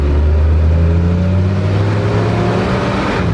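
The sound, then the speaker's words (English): The engine of an old doorless Jeep nicknamed Gordo revs up and accelerates as it pulls away for a spin, a steady loud rumble with rising harmonic tones, without any talking. “I'm gonna take old Gordo for a spin.”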